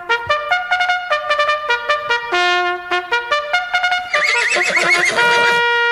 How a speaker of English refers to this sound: release the horses.